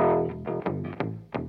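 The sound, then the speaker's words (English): A distorted, effects-heavy bass guitar played through a whammy pedal plays a few sustained, pitch-shifted notes with sharp attacks, loud, with no voices. “Go back to that bass on the whammy pedal.”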